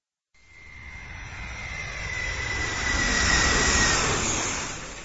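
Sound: airplane engine sound effect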